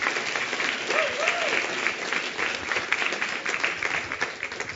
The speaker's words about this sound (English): Give her a big hand clap.